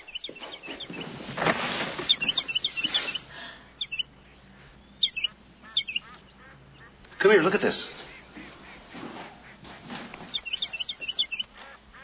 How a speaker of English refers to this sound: What is that, a finch? A lark? I think it's a sparrow